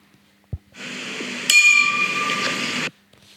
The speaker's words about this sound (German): Das könnte das Bändchen klingeln sein. Es war leider ein Glaszusammenstoss, also leider falsch.